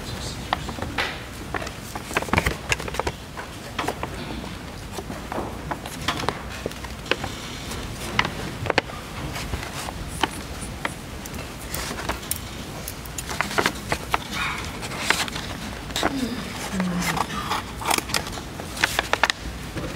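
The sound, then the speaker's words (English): An evidence package holding an unfired 12-gauge shotgun shell, submitted with a camouflage Benelli shotgun, is opened: steady rustling and crinkling of packaging with scattered sharp clicks and taps, maybe a quiet murmur of voices in the background. “Could you go ahead and open that package for us, please?”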